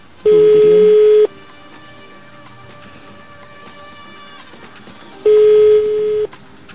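A telephone line rings out as a Darik Radio show calls a listener live on air: two long, steady ringback tones about four seconds apart, loud and clear, with only faint background noise in the pause between them.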